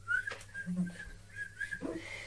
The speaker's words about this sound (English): I whistle a happy tune.